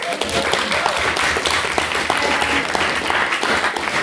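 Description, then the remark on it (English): A debate audience applauds a speaker steadily, with many overlapping claps forming a dense, continuous patter that holds at an even, fairly loud level throughout with no talking over it. “Hold your applause,”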